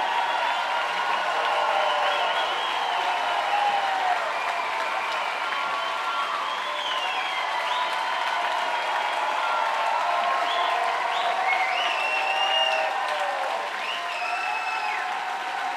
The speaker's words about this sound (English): They're all applauding the crowd.